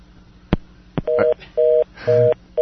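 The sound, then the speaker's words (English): Two sharp clicks, then a telephone's steady two-note tone beeping in short, evenly spaced bursts, about four pulses, loud, with no one speaking. “Oh, there's a phone call.”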